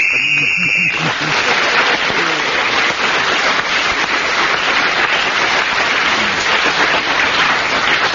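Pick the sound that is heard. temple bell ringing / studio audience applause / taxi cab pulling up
studio audience applause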